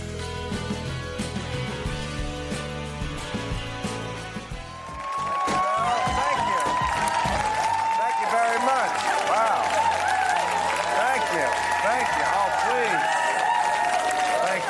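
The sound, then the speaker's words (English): A studio audience at a Real Time taping on a rainy Thursday bursts into loud applause and cheering after a few seconds of music, the dense clapping and whoops carrying on steadily to the end. “What a crowd for a Thursday and a rainy Thursday.”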